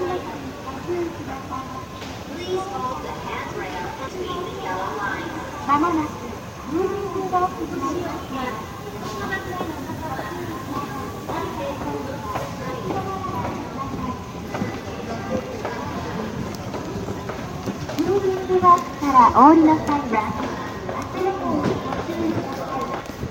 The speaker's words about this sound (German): Was allerdings gut zu hören ist, sind die Geräusche aus dem Bahnhof in Kyoto. Und genau die hören wir uns jetzt einmal an.